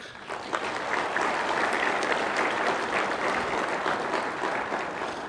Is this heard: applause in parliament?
yes